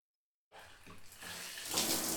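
Running water starts abruptly after a half-second of silence and pours steadily, a broad hissing spray that grows slightly brighter and louder, like a shower or tap running close by.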